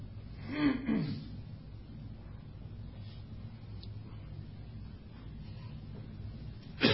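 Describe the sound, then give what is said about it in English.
A single harsh cough bursts out near the start, followed by several seconds of low, steady background hum, then another abrupt cough-like burst right at the end. “Don't worry about the coughing.”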